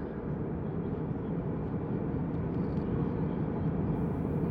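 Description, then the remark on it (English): A steady, low airplane cabin engine drone, a dense rumbling hum that holds at an even loudness throughout with no voices or breaks. “I stood in the aisle of the plane, staring at the phone screen as it chirped and vibrated in my hand.”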